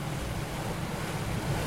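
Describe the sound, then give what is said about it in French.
Steady rush of water and wind as a sailboat moves through waves, a continuous wash with a low rumble underneath and no voices. “Et ce qui est drôle, c'est que quand le bateau avance comme ça, en fait, on a envie de penser à rien.”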